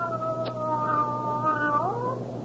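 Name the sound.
cat meowing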